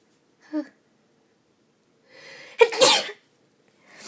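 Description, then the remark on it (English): A single loud sneeze bursts out, preceded by a short breathy intake and a brief vocal sound, then quiet. “And I have to sneeze really bad.”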